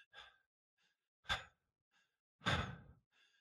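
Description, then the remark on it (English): A person demonstrates breathing, breathing audibly in short, uneven bursts, three strong breathy puffs with softer ones between, the last drawn out and heavier like a sigh. No talking. “So the challenge is, we've got these bodies that are breathing like this.”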